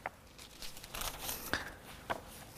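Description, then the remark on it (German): Soft papery rustling and a few brisk swishes as thin pages of a Bible are flipped to Genesis 37 (1. Mose 37), quiet, with no one speaking over it. “Blättern wir zu 1. Mose 37.”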